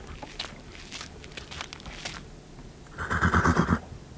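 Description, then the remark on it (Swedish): A horse in a meadow whinnies loudly near the end in a shaky, trembling burst, preceded by scattered rustles and soft hoof steps on the ground. “På en äng ser han en häst.”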